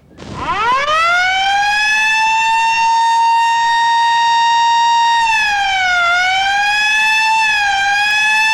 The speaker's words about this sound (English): He climbs up to stop the siren on the ambulance roof and knocks it off.